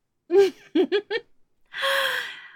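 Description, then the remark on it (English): A few short, breathy vocal bursts give way to a long, drawn-out yawn, airy and sustained with a faint low tone running through it. “And I yawn, I wiggle.”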